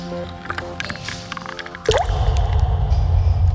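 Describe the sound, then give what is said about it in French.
Scattered drips over a low hum give way, about halfway through, to a sudden steady rush of shower water pouring, continuing loudly to the end. No one speaks. “Je rentre, je prends la douche, quoi, je sors.”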